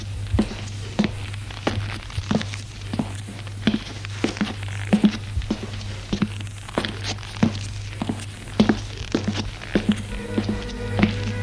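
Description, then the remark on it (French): Footsteps climb a narrow stone staircase to the third floor of a building with no elevator, about twenty sharp, even steps at a steady pace over a constant low hum, with no voices. “Il n'y a pas d'ascenseur. Escalier étroit de pierre.”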